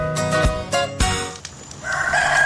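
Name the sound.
rooster crowing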